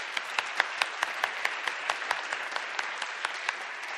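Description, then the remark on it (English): A crowd applauds steadily for the guests who have just spoken, a dense wash of many hands clapping with sharper individual claps popping out at an even, lively pace throughout, sustained with no voices. “Should we just give them a round of applause?”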